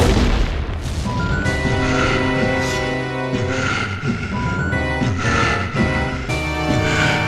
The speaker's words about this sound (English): But suddenly, we, and the characters, hear a sound. Another nod to the importance of audio in this story. It sounds like a metal bang.